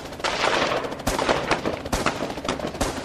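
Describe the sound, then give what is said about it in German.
Police open fire at the Fürstenfeldbruck air base shortly after a helicopter carrying terrorists lands: rapid, irregular bursts of gunfire crack sharply over a dense, noisy roar, with several loud individual shots standing out in a chaotic exchange of fire; no one speaks. “Kurz nachdem der Hubschrauber gelandet ist, eröffnen die Polizisten das Feuer.”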